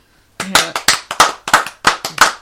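A burst of hand clapping begins after a brief silence, with sharp, loud claps coming in a quick, slightly uneven rhythm of roughly eight or nine beats.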